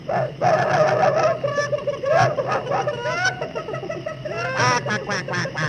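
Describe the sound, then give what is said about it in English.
Chickens squawk and cackle in a frantic, nonstop flurry as a dog goes after them, loud, with shrill rising shrieks piling over one another throughout. “that nasty dog is at the chickens again.”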